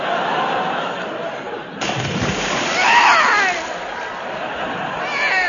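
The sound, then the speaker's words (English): A loud splash, as of someone falling into water, breaks in partway through. It is followed by churning, sloshing water and faint chuckling in the background. “I'm drowned in the dead in water.”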